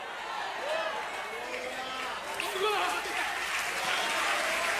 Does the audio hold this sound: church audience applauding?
yes